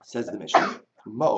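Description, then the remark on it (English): A man is talking when a single short, sharp sneeze bursts out mid-sentence, fairly loud, and then he goes straight back to speaking. “bless you.”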